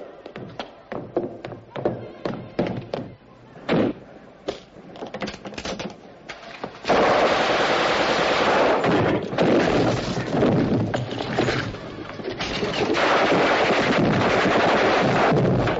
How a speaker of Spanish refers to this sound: Chacal efectúa el primer disparo, pero falla ante una imprevista inclinación de cabeza de Gaulle. Carga la segunda bala y es cuando es sorprendido por el guardia al que mata.